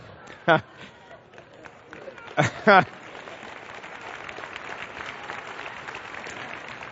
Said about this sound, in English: I don't see any men clapping.